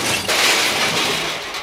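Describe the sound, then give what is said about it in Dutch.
A loud crash as a car rams through a heavy metal door, with harsh shattering and breaking debris that roars on for under two seconds with no voices. “Hij gaat er met de auto rammen.”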